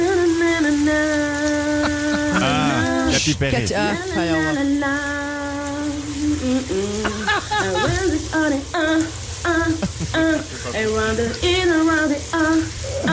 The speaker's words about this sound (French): était sous la douche et elle chantait ça.